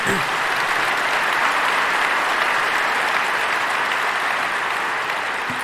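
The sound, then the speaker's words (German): Sustained audience applause at a talk, for the Swiss CCC members' work against e-voting, a dense steady wash of many hands clapping at a loud, even level for several seconds before easing slightly at the end. “Und Applaus. Applaus.”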